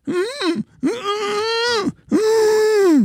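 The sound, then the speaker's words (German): A voice imitates the strangled, moaning sound a person makes lying in bed while trying to scream for help in a dream: three drawn-out, tense groans, the first short and the last two longer, each rising and falling in pitch, with no words. “Und in der Realität, im Bett, liege ich dann und mache nur so.”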